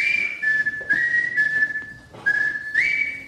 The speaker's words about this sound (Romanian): Ia mai fluieră puțin, te rog.